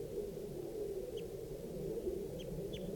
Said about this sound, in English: now, I've got 2 birds in the tree, a gray bird and a red bird. And they were in the same tree as the adult female, and they're calling here. That's the adult male, that's the gray. Male gray.